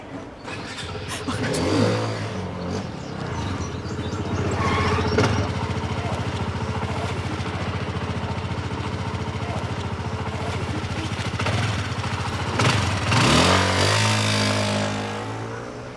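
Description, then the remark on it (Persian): A motorcycle engine rumbles loudly, revving hard near the start, holding a steady throaty drone, then surging again in a second rev before easing off. “هی پسر موتورو بیار.”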